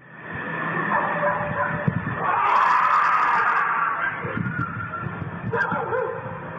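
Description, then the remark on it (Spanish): Dogs bark and yip somewhere off in the distance over a steady, busy background, picked up by a monitoring webcam, with a drawn-out wailing cry rising in the middle before fading. “en otra capa el sonido de unos perros que están por allí, y luego se escucha este rugido, que mucha gente lo aludió como, son los perros, pero ahí se escucha perfectamente cómo suena un perro y cómo suena esta otra cosa que estamos escuchando.”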